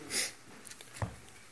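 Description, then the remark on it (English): A quick, breathy sniffle through the nose of a person who got sick a couple of weeks ago, followed by a few faint soft clicks and rustles in otherwise quiet surroundings. “I apologize if I sniffle a lot.”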